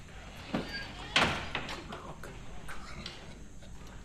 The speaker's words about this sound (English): Kemp opens the door for the man.